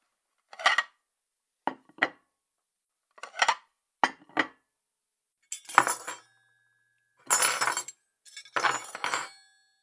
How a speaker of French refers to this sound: Je prends une assiette. Et des couverts. Je mets la table.